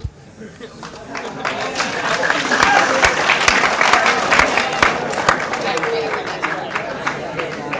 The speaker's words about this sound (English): I'm sure all the speakers are going to be good, but if we could please hold the applause for real. Until the end, we have a long night ahead.